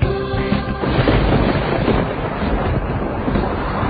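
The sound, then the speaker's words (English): Heavy rain pours down in a dense, continuous hiss, heard from under a canvas tarpaulin in the back of a truck heading west into the hills past Bragg Creek, while a deep, rolling rumble of thunder swells underneath and keeps going for the whole stretch, with no voices. “It's pouring rain.”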